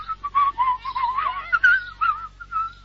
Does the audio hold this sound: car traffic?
no